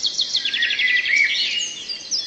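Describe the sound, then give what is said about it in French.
Birds chirp and tweet in a busy, overlapping chorus of rapid high-pitched calls, steady throughout, with no voices present; the birds are in a garden and a house, with no cages, just nests. “est piaillement dans son jardin, dans sa maison. Aucune cage, juste des nids.”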